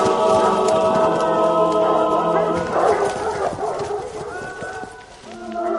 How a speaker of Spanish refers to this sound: Los perros acorralan al animal. El ciervo se detiene. Los perros ladran frente al ciervo. El animal está paralizado.